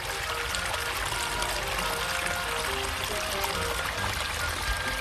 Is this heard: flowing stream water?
yes